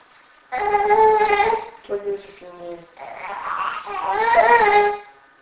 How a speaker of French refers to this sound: Allez, ne pleure pas.